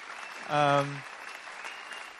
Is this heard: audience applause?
yes